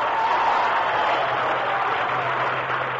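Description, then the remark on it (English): A dense, steady wash of clapping from a large studio audience, sustained at an even loudness for several seconds with no voices over it. “Save that applause, ladies and gentlemen.”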